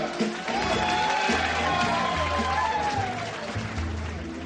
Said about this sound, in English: Join me with a great big round of applause together in public for the first time as husband and wife,